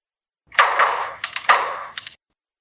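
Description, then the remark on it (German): A lyrebird mimics hammering on metal: a quick, irregular run of about seven sharp, ringing clanks with bright metallic overtones, loud and alone with no talking. “Wie sieht es aus mit dem Hammer?”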